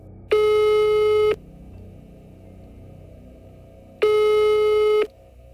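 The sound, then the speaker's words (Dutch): Two steady, buzzy ringback tones of an outgoing, unannounced phone call, each about a second long, separated by a few seconds of quiet hiss with a low background rumble. “Ik bel onaangekondigd, maar met succes.”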